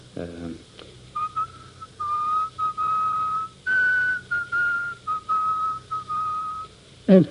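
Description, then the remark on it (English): A man whistles a slow, solemn funeral march, clear and steady, with long held notes in measured phrases. A voice is heard briefly just before and after the tune. “He whistles a funeral march. You know, the one that goes like this.”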